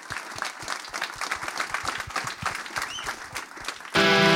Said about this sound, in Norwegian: Stor applaus til dem!